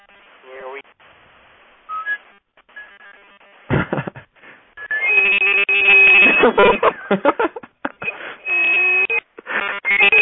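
Shrill, loud whistling through a drinking straw from a 30-pound insulated soft cup, heard over a phone line, in wavering bursts of sliding and held pitches with short pauses between them.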